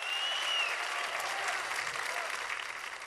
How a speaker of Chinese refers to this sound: 掌声鼓励一下